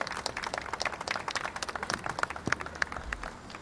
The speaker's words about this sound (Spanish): Vamos a dar un aplauso para ellos también, que van a dar un mensaje solidario.